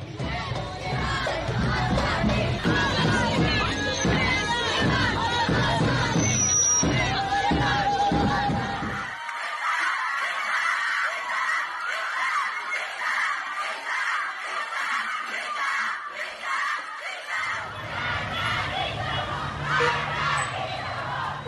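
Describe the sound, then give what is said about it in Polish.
A large street protest crowd in Iran, in the streets of Tehran, Isfahan, Mashhad and other Iranian cities in late September 2022, chants and shouts in a loud, continuous roar with rhythmic collective cries; midway the low rumble drops out, leaving higher-pitched shouting and whistling before the full din returns. “Tak brzmiały wtedy ulice Teheranu, Isfahanu, Meszhedu i dziesiątek innych irańskich miast.”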